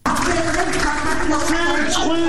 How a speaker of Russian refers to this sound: пытался заглушить поздравительные аплодисменты более 300 судей, предназначенные 4 новоизбранным членам Высшего совета юстиции.